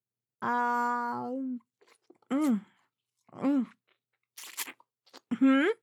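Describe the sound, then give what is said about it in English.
Exaggerated eating noises as someone gobbles down lunch while working come in a series of short bursts: wet slurps and crunchy munching mixed with drawn-out, moaning hums from a voice. “The slurping? What? No, it's just that I have no other time today to eat, so I'm trying to gobble down my lunch at the same time as work with all these gentlemen.”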